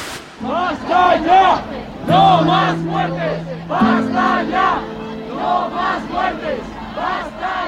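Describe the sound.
A loud crowd of street demonstrators in Spain chants slogans together in steady, repeated bursts, with a sustained horn-like drone running beneath the voices for much of the time.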